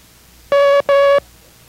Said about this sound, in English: And that was Mike. Now let's continue with our first lesson in the International Morse Code.